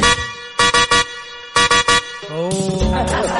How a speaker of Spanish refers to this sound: Más o menos tu bocina nomás. La es nueva. Claro, hay que usarla más, está más o menos flaca esa bocina.